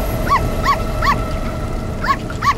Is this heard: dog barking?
yes